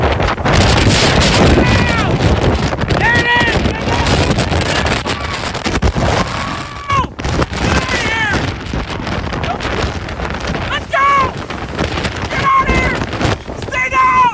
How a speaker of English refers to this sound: Here's the time, the exact moment that the eye came into, and he was standing there for the wall of the hurricane last night.